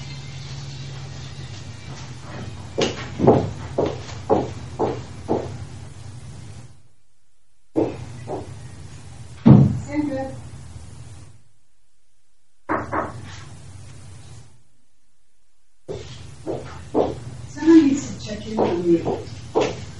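A locked door rattles in a string of sharp, repeated bursts, as if someone keeps trying the handle, during a court hearing, over a steady low hum, with brief silent gaps between the rounds of rattling.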